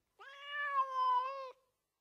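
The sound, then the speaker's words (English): A cat gives a single long, drawn-out meow lasting just over a second, steady in pitch, with nothing else around it. “The cat has got it.”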